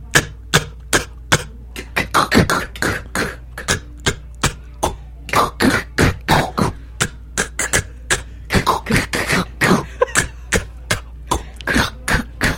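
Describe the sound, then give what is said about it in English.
A voice makes sharp, breathy vocal-beatbox snare "K" sounds, repeated rapidly in a steady rhythmic pattern of crisp, bright clicks and hisses with short gaps, no words spoken. “Snare is real simple, all right? Say cat, cat, cat. Now emphasize on the K.”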